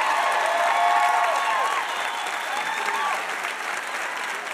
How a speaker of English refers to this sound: Another huge round of applause for our VIP, Barney Frank.